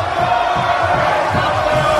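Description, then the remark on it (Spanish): A large crowd cheers and chants loudly and continuously, a dense roar of many voices with rhythmic rises of shouting, at a street celebration in Barcelona, Spain, as FC Barcelona's bus parades the Liga champions, with more than 75,000 fans in the streets. “Esto es en Europa, en España, el sonido del autobús del Barcelona campeón de Liga.”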